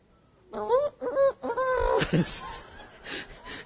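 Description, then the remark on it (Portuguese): A person imitates a rooster crowing with a few short, pitch-bending vocal calls in quick succession, fairly loud, followed by breathy, laugh-like noise. “Deus fez o galo. Cocó, coró, cocó.”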